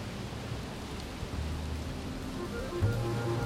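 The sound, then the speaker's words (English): A steady, even hiss of rain falling outside, constant throughout with no distinct drops standing out, over a faint low hum; nobody speaks. “And weirdly enough, the weather today is just as it is in the poem. Outside, white, patient animals, entangled vines, and rain.”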